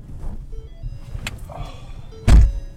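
After a few seconds of muffled rustling and faint shifting movement as someone gets into a battered white Prius loaned out by the county, its heavy car door thunks shut loudly near the end.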